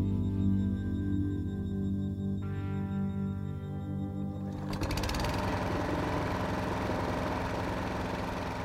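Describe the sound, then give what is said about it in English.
A lawn mower's small engine drones steadily and loudly as a man mows the lawn, then about halfway through its sound roughens and grows harsher, as if the motor is put under load, running on without any voices. “And one day, there he was, home from work early. Mowing the lawn.”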